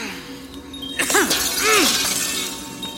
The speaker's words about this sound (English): Cass, just break the mirrors! Break them and I can find you!